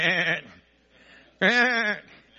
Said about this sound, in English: Wait, something around? Oh, just dumb sheep.